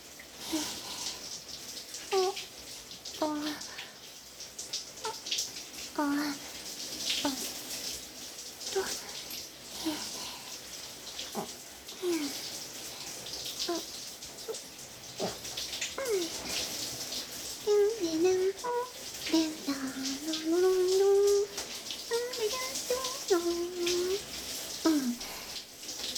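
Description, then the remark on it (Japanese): A steady hiss of shower water runs for the whole stretch, rinsing conditioner out of hair, while a high, light voice speaks in Japanese and hums softly over it now and then. “リンスもしっかり流れて全部終わったよ。”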